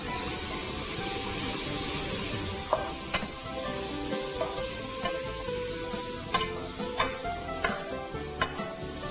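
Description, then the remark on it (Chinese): Steady sizzling of carrots and mushrooms stir-frying in a wok, with a broad hiss and sharp scraping clinks of a spatula every second or so, moderately loud, no voices. “好，这个红萝卜已经炒有一点软的时候呢，我们可以把我们的这个红喜菇呢放进去。”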